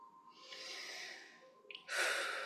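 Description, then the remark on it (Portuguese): A slow, deep breath drawn in and released, a long airy inhale followed by a brief pause and a stronger, breathy exhale. No talking. “Respirando fundo, agradecemos mais uma linda quinta-feira na nossa vida e a gente se vê amanhã.”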